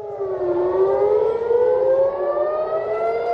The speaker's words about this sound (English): A residential building in northern Israel was hit by a projectile on Monday after air raid sirens blared across the border town of Nahariya.